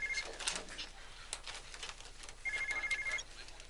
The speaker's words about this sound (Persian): ببین اون تلفن رو جواب بدی زنگ نمیخوره.